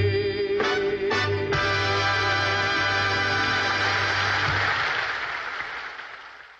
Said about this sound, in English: Isn't that cool? I like how they have applause after. I love the old recordings.